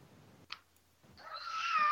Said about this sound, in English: How'd that cat get in there? It's the cat! You not hear me? Yeah, but how'd the cat get in there? I don't know how it got in there.